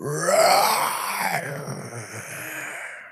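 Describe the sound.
A man imitates a lion's roar with one long, rough, growling vocal burst that rises in pitch at the start, then trails off into a gravelly rumble over about three seconds.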